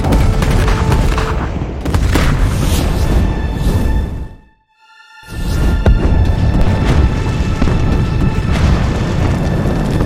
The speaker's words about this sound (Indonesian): Panglima, siapkan kapal perang terbaik kita. Hancurkan saja kerajaan ini. Isi semua meriam dengan peluru. Serang!